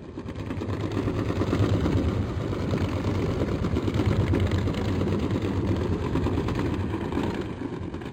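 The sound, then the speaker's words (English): A steady, low mechanical drone with a deep engine hum and constant rumble from a commercial ship, like ship's machinery heard underwater, continuing evenly throughout with no voices. “That was a commercial ship.”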